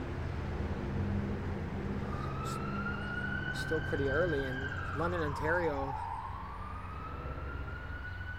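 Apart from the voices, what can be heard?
emergency vehicle sirens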